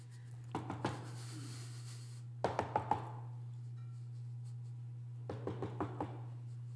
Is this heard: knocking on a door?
yes